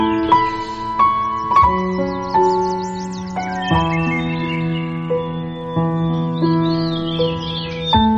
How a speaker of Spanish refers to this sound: Sonido de pájaros, sonido de naturaleza, porque en este espacio de Ecoislas hoy vamos a hablarles acerca de los castañeros.